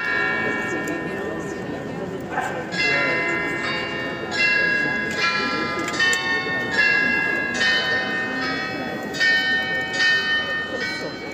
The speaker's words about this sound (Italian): Immagina 43 campane che iniziano a rintoccare e 32 statue a grandezza naturale che prendono vita sopra la tua testa.